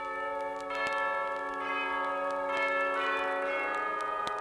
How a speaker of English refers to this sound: Some of the drummers played chimes.